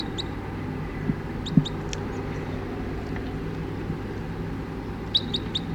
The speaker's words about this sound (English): 20 crossbills just sat down in the trees here, and it's about 9 o'clock now, and one of the birds, an orange male, is in the net.